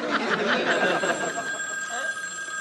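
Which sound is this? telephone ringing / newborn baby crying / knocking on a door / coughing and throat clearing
telephone ringing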